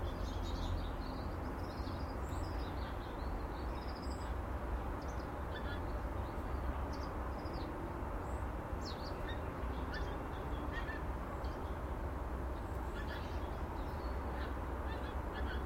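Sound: geese honking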